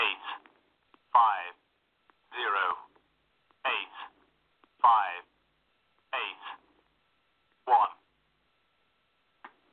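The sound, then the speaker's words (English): A voice imitates telephone keypad tones dialing a number: eight short, evenly spaced tonal bursts over a thin, phone-like line, each a separate beep-like note with brief silences between. “Have a sec to try this on the phone number, see if you guys can hear it?”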